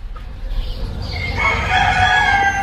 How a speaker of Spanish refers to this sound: 6 de la mañana. Los gallos, de azas de cesto, en Cantabria, se replican y reafirman tras las tapias de los corrales, estirando el cuello.